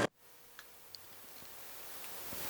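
A few faint ticks sound at uneven intervals against a quiet, hissy background, like a clock ticking softly with no voices present.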